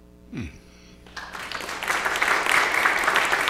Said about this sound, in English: today I think it would be entirely appropriate if we gave Pastor a round of applause based on thankfulness.